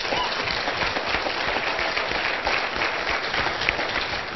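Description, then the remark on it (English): A steady wash of audience applause for the guests at a Saturday morning presentation, many hands clapping densely and evenly at a fairly loud level for several seconds, with no speech over it. “Let's give the guests the applause they deserve.”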